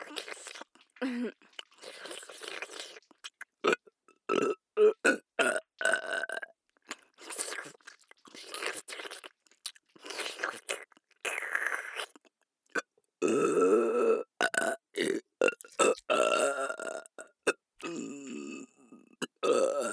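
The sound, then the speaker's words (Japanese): Loud, deliberate burps up close, a long run of short belches with brief gaps, then a couple of drawn-out, rumbling burps near the end. “一番エロいゲップでベロ中。”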